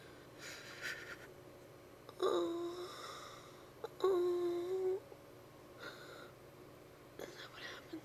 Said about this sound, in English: When I come, do you find yourself breathing with me? Is every breath you take with me?